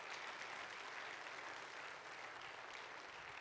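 A crowd claps in steady, dense applause for student ministry volunteers from junior high, senior high and young adults, holding at an even, fairly loud level for a few seconds, with no voices heard over it.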